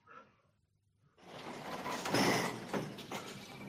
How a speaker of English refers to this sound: Honestly, love, as if I haven't got enough to do. All these blooming doors to cope with. Like getting to Checkpoint Charlie around these corridors.